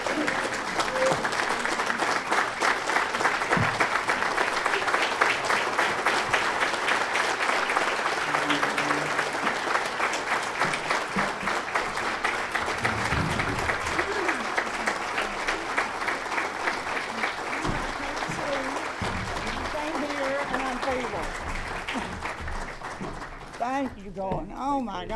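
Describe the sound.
A crowd claps steadily as the 2016 Heart of Tennessee Chapter of the American Red Cross Hero of the Year is called up, a dense wash of many hands with a few scattered voices and cheers rising beneath it before it tapers at the end.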